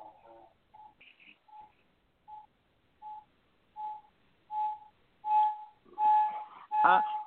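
A run of about nine short electronic beeps like telephone keypad dialing tones, made while dialing to bring a caller onto a phone call, evenly spaced and growing steadily louder, the last few sharp with a faint murmur beneath.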